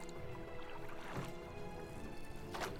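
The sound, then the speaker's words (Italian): Oars dip and pull through water as rowers row a boat toward the shore, in two splashy strokes about a second and a half apart, over a steady background of lapping, sloshing water. No one speaks. “Vogatori, remate con più forza e dirigetevi laggiù verso la riva.”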